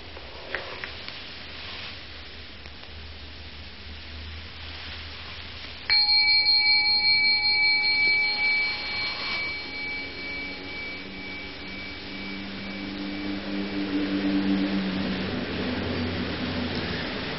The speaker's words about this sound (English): You see, the bell came out of nothing, floated off, off, off, off, and then stopped being a sonic echo and became a memory, which is another kind of echo, a wake.